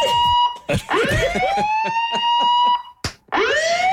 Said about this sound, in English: Do you want the alarm? Yeah. Sound the alarm.